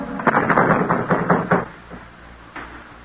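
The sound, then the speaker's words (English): A rapid series of loud, firm knocks pounds on the wooden door of a dance hall, about seven in quick succession, then a pause and one last faint knock. “They won't open up for us.”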